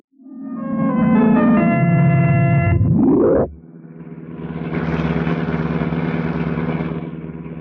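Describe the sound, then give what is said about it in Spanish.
A heavy car, rigged to run without using the ignition key, revs with a loud, rising mechanical whine, then settles into a steady, rough rumbling drone as it drives along toward the lights of Rome, with no voices. “Calimán conduce el pesado auto que arreglara para evitar la utilización de la llave de encendido.”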